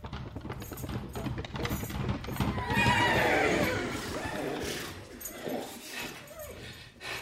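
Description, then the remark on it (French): A racehorse lets out a loud, shaky whinny that rises and falls over a few seconds, with a steady clip-clop of hooves and some background bustle around it. “Alors j'ai appelé mon ami idéal du gazo, le cheval de course, et je lui ai demandé conseil.”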